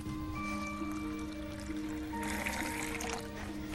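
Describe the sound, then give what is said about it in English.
Water pours steadily into a glass, a continuous splashing trickle that grows brighter partway through, with a faint tonal hum underneath and no voices. “The woman brings a glass of water.”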